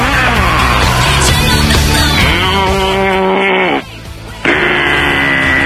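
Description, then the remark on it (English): A cow moos loudly, one long drawn-out bellowing call that wavers and slides down in pitch, breaks off briefly, then starts up again with no talking. “The cow became upset, and the cow decides to call your program”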